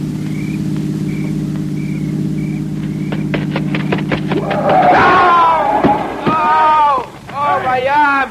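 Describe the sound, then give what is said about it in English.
A car engine hums low and steady for several seconds with faint, evenly spaced beeps above it, then a sharp clatter breaks in and loud, agitated voices take over. “Listen. It's a car.”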